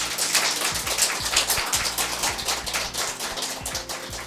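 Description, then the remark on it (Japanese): A crowd of over 20 participants applauds at a public radio recording of the Machinaka Cafe Tsunoda event, in a classroom-sized Japanese-style room at the Tsunoda rural environment improvement centre, Kuriyama town, Japan: dense, steady clapping, many overlapping sharp claps blending into a continuous crackle that holds for several seconds and eases slightly, with no voices. “はい、ということでね、大きな拍手もいただきました。”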